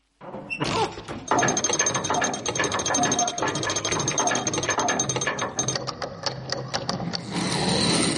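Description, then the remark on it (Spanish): A lever on a statue sets a hidden mechanism grinding into motion to open a door: a steady, loud stream of rapid ratcheting clicks and whirring gears that runs for several seconds without pause, with no voices. “El sobrino se acerca a una estatua. Acciona una palanca.”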